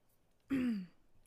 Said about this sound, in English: I'm gonna clear my throat here. I lost it. Hold on a second. There we go. I'm ready.